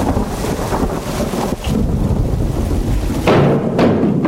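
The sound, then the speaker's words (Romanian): A loud, steady thunderstorm roar of rain and gusting wind, heard from a balcony, with a deep, continuous rumble of thunder beneath and a couple of brief louder surges near the end; lightning is present; no voices. “Vină de pe balcon, că o să te prindă un fulger.”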